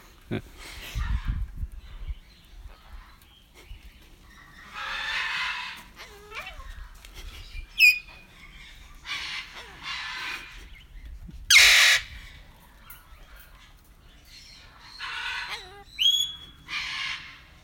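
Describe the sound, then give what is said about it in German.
Birds at the Vogelpark in Niendorf-Timmendorf give a series of harsh, hoarse, raspy calls in irregular bursts, some croaky and almost voice-like, sounding like "hallo", with short quiet gaps and a low rumble at the start. “schöne Grüße aus dem Vogelpark in Niendorf-Timmendorf”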